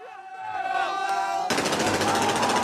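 A steady tonal hum with crowd-like voices gives way abruptly to a dense, loud barrage of rapid crackling bangs from fireworks in Gaza as a ceasefire is declared, popping continuously in quick succession.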